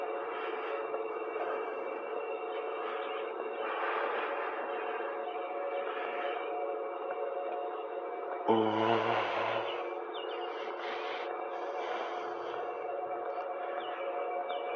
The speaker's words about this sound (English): That's the air conditioner making all that sound. With a vent on some heating system. I don't know why they need it at this time in the morning. Who's actually getting heated? Why is it so loud?